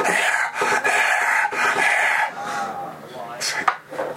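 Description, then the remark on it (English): A voice imitates a man gasping for air as his head comes out of water in a kitchen sink: a rapid run of loud, raspy, heaving breaths, trailing off into strained, wheezy vocal sounds. “And all of a sudden, his head comes flying out of the water, and he's gasping.”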